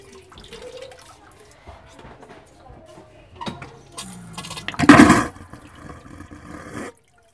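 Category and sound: household object, toilet flushing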